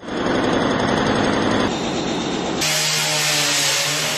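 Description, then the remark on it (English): A loud hydraulic jackhammer mounted on a digger pounds through a concrete floor, breaking the ground in a rapid, continuous burst of blows, then its tone shifts into a harsher, higher mechanical roar for the last stretch. “In the video, a digger with a mounted hydraulic jackhammer breaks the ground.”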